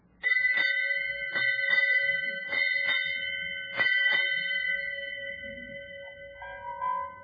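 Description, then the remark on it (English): A ship's bell in fog is struck eight times to mark the change of the watch. It rings out in four quick pairs, each strike loud with a bright metallic ring that hangs in the air and slowly fades. “Will you strike 8 bells, mister?”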